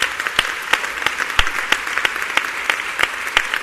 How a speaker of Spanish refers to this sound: Un aplaudiment pel públic també, que fa possible aquest festival.